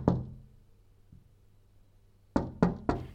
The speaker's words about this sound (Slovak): Len malú chvíľku po jeleňovom odchode sa ozvalo tiché zaklopanie na dvere chalúbky a ešte milšie hlásky, ako včera prosili.